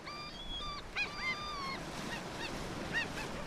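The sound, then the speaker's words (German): Steady rushing ocean surf fills the background while several honking, goose-like bird calls ring out in short bursts over the wash of the waves. “Nicht immer sind Meeresimpressionen die passende Lösung, um vom Lärm abzulenken.”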